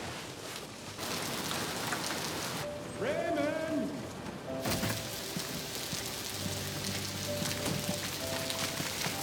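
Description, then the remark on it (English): Steady rain pours down in a dense, hissing wash that fills the whole scene, with a man shouting briefly over it and other voices faintly heard under the downpour. “It's raining.”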